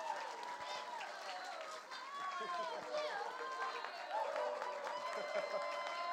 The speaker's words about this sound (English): So come, let's give a huge round of applause as he preaches this morning.